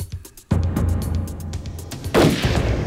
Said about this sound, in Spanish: Los agentes en el auto oyeron disparos y temieron que Dillon hubiera atacado de nuevo mientras lo vigilaban.